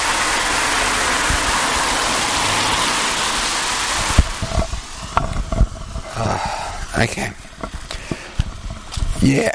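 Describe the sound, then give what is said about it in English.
A car rushes past, its loud broad roar filling the first few seconds before cutting off abruptly, followed by quieter sounds and faint voices. “Here comes another car.”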